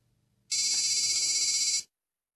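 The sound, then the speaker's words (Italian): An old mobile phone ringtone sounds once, a bright, buzzy electronic tone held steady for just over a second, loud, then cutting off into silence with no talking. “Ecco, che telefonino è?”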